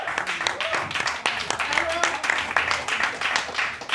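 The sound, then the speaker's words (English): An audience applauds the round one competitors of a reading competition as they are led back to the stage, dense overlapping claps forming a continuous bright wash of noise for several seconds, with faint voices and a few whoops mixed into the clapping. “Keep it going for your round one competitors.”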